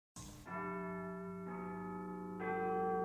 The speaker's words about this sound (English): Then he heard a church bell ringing. It was midnight. I know that bell. It's St. Thomas's Church.